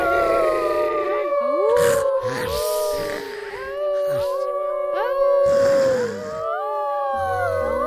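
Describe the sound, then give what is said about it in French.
Several wolves howl together in a sustained chorus, long wavering tones rising and falling and overlapping one another throughout, fairly loud, with no other voices. “Soudain, Sandra se met à crier. Ah! Des loups!”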